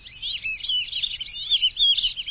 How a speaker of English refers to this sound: Black-bellied whistling ducks demonstrate that they are indeed ducks that whistle.